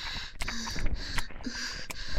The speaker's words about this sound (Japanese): 息切れしているだけです。